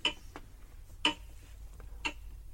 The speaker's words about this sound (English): We must have been next to his clock.